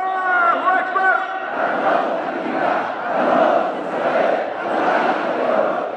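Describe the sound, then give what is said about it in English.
A lone voice calls out a sustained shout, then a huge crowd answers, chanting loudly together in steady, rhythmic swells, the massed voices rising and falling with each phrase, at a Houthi street rally in Sana'a in solidarity with Palestinians, protesting the Israeli bombardment of Gaza, crowds holding up slogans and images of the Houthi leader. “There are just these huge crowds of people holding up their slogan, holding up images of the Houthi leader.”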